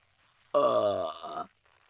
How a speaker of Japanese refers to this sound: あら 失礼。あまりにも濃すぎてゲップが出ちゃったじゃない。